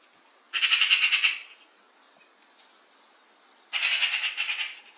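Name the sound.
eurasian magpie chattering call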